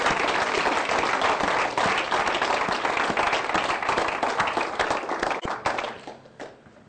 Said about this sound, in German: Ein Applaus für ihn. Herr Kollege.